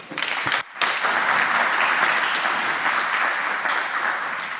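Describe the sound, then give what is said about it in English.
A crowd claps steadily, a dense wash of many hands applauding, holding nearly constant loudness after a brief dip near the start and easing off slightly toward the end. The applause greets a speaker introduced to give a lightning talk on hacking IP cameras. “A big applause to”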